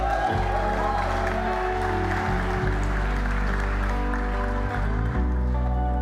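An audience applauds steadily for several seconds, a dense patter of clapping layered over sustained, loud instrumental music with deep held tones.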